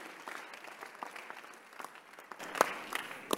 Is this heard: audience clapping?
yes